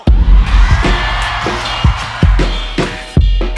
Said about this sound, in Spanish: Ahora México, quiero escuchar un grito ranchero.